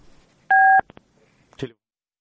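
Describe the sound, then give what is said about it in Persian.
A single loud telephone keypad tone sounds for about a third of a second, followed by two quick clicks and a brief burst of a voice on the line, as an Azadi Radio programme takes listeners by telephone. “بریم به شنونده ها از طریق تلفن”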